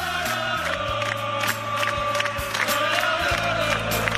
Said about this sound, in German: Naja, Sport kommt zwar erst in der nächsten Stunde, aber das gehört einfach voraus. Nämlich zuerst einmal der Jubel.